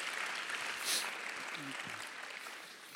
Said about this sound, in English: Can I hear an amen here? Let's give the Lord another hand clap right here.